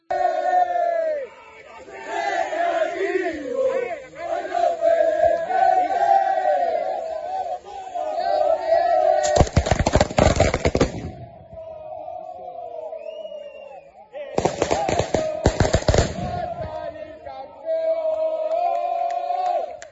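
A large crowd of Recreativo de Huelva football fans greets the team bus, chanting and roaring loudly without pause, voices rising and falling in rhythmic sung waves, broken twice by harsh bursts of crackling, booming noise; recorded from outside on a mobile phone.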